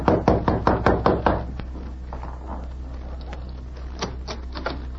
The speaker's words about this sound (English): When he saw a light appear in the window of the editor's room, he entered the building and went directly to room number 4. He knocked on the door.